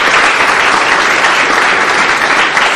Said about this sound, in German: Ja, euer Applaus. Genau.